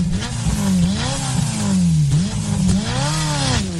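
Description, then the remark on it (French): A loud Ferrari engine roars and revs repeatedly, pitch climbing and dropping through several rising surges as it accelerates and shifts, with no voices. “Ce rugissement du moteur, c'est tout le défi de la marque italienne aujourd'hui, réussir à vendre une Ferrari sans ce son.”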